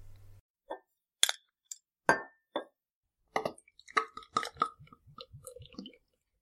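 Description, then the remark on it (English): A few clinks of glass and a sharp hiss as a bottle of beer is opened, then a run of quick gurgling glugs as it is poured, with no talking. “Yeah, so let's share it and sip it, as we say. All right, let's open it up first.”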